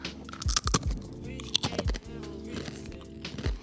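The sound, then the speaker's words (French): Crisp crunching of wheat tortilla chips being bitten and chewed, with sharp bursts of crackle around the first two seconds followed by softer, steady chewing. “Nous partons sur un autre continent et retrouvons les tortillas de blé.”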